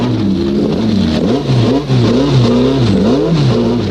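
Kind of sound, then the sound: vehicle, race car engine revving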